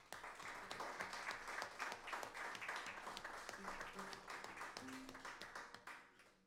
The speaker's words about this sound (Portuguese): vamos tocar a penúltima, não sem antes agradecer a forma como fomos recebidos por todos os elementos da equipe do Armazém 8. Muito bem, haja eles, e pedir uma salva de palmas a eles.